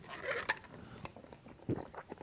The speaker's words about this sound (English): Just going to drink a little bit of water here.